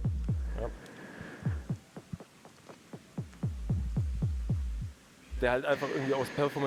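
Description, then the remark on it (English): A steady electronic beat of deep, punchy kick thumps runs for several seconds, pauses briefly, then returns brighter and buzzier as a sweeping DJ filter effect opens up the sound. “The echo, for example, the echo beat, it can do a lot of effects, like, for example, the DJ filter.”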